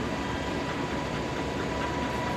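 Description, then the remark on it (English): A lab analysis machine, with a sample in its cell and the lid closed to keep out light, runs a program through a series of excitation steps, ticking away with a steady, dense mechanical rumble and a faint constant hum on top, moderately loud and unbroken, with no voices. “And then we hit play and run a program now which steps through a series of what we call excitation steps. Hear it ticking away.”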